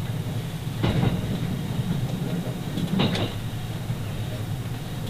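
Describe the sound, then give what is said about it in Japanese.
The limited express Thunderbird No. 13 from Osaka rolls steadily along the rails towards its terminus, Wakura Onsen, with a continuous low rumble, broken by two sharp bursts of wheel clatter over rail joints about two seconds apart. “今日は大阪からの特急サンダーバード13号をご利用くださいましてありがとうございました。”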